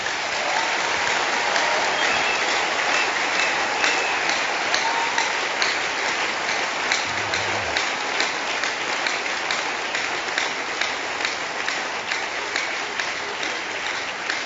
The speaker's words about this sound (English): I'd like the entire congregation, inclusive of those that are online, to give a very, very warm clap offering to the mission department.